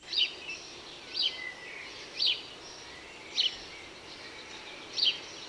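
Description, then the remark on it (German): A house sparrow chirps five times at a steady, roughly one-second pace, each short bright chirp standing out clearly over a faint, hissy outdoor background with no voices. “Das Zirpen der Spatzen kommt euch bestimmt sehr bekannt vor.”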